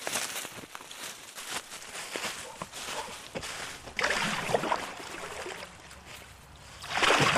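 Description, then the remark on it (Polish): Kayak paddle strokes splash and swish through the water of the Wieprz River in Lublin Voivodeship, Poland, in an uneven rhythm, with a steady wash of moving water. The splashing swells louder near the end. No one speaks. “No i jesteśmy na rzece Wieprz, która ma zarówno swoje źródło, jak i ujście na terenie województwa lubelskiego.”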